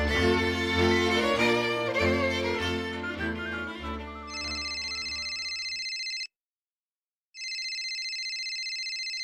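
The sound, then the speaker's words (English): Music fades out and a telephone starts ringing with a phone call in June 2019, a bright electronic trill sounding in two long bursts separated by a short pause of silence, fairly loud. “It all starts with a phone call in June 2019.”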